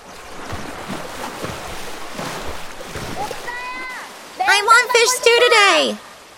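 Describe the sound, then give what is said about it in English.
Okja, a large super pig, lumbers away from a small pool of water and splashes through a rocky stream, with steady sloshing steps over running water, followed near the end by loud, high-pitched vocal calls. “Okja lumbers away from the small pool of water through a rocky stream.”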